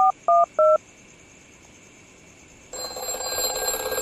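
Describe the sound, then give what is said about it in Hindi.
Three quick touch-tone keypad beeps dial a phone number, followed by a brief hush and then a steady, buzzing line tone that grows slightly louder. No one speaks. “उठाओ भाई, उठाओ उठाओ भाई, उठाओ उठाओ भाई।”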